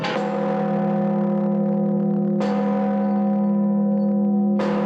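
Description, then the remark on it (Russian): The main church bell, the Blagovestnik, a newly restored bell of more than 7 tonnes, is struck at its consecration in the village of Bolshoye Kazino, tolling with deep, heavy strikes roughly every two and a half seconds, each blooming into a loud, sustained metallic hum that rings on until the next blow. “С особым трепетом ждали первого удара в Благовестник.”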